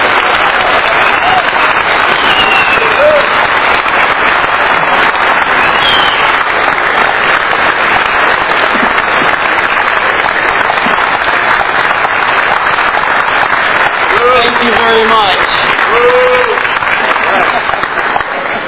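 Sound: standing ovation applause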